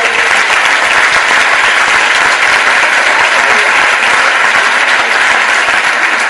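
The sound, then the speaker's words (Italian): Sustained applause from a large audience, dense and steady clapping filling the whole stretch at a loud, even level with no voices rising above it. “Invece sono arrivati i complimenti dal comando di vigili del fuoco e da tutta la commissione intera, quindi un applauso ve lo chiedo per proprio ricostare il vostro partito.”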